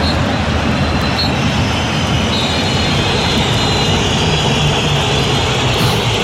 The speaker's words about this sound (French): Et écoutez la bronca qui s'en est suivie quelques secondes plus tard, elle était principalement pour lui, pour Vitinha.